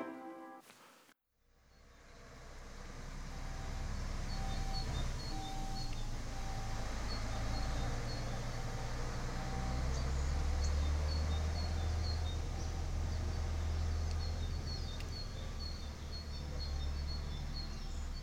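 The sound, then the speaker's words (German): A reversing garbage truck's backup beeper sounds in steady, evenly spaced electronic pips over a low diesel engine rumble, with street noise around it and no one speaking. “Wir haben eben gehört, das Piepen eines Müllautos, das rückwärts fährt.”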